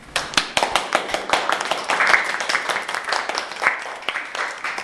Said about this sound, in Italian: Beh, insomma, l'applauso ci vuole, no?